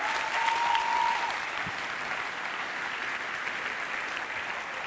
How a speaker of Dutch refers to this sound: Zijn jullie nog een beetje blij? Zullen we de Heer een applaus geven en bedanken?